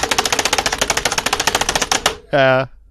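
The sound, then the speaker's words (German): Rapid, frantic typing on a computer keyboard imitating the typical sound of a hacker: a dense, steady stream of crisp key clicks for about two seconds, then a brief harmonic tone at the end. “Wir vergewaltigen unsere Tastatur.”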